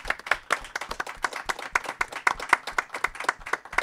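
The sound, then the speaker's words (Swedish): A small group claps steadily for a panel at the end of a discussion, about four seconds of a dense, uneven patter of sharp hand claps at a moderate level with no voices. “Då kan vi få en applåd nu då, i alla fall här panelen.”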